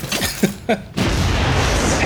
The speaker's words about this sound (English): The unnecessary explosion.